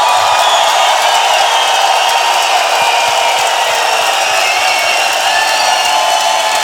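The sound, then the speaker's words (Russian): A large festival audience applauds and cheers loudly and continuously, a dense wash of clapping and shouting that holds steady from start to finish with no one speaking over it, welcoming the team that has created the festival for 15 years. “И я хотел бы, чтобы вы поприветствовали аплодисментами, криками ту команду, которая на протяжении 15 лет создавала этот фестиваль.”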